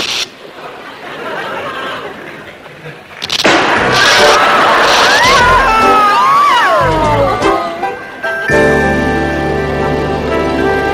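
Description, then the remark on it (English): A loud studio audience cheers and applauds as a performer is introduced, with whoops and high rising and falling shouts over dense clapping, then a steady electric hum takes over near the end. “Let's really hear it out there.”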